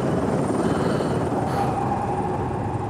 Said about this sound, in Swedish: Helikoptern cirklade över godset.